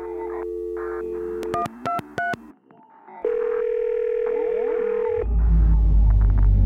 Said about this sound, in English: The phone is ringing.